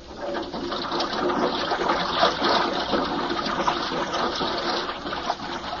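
Water rushes steadily into a diving airlock, a loud, continuous churning roar with a gurgling, hissing edge that holds for several seconds without letting up. No voices are heard.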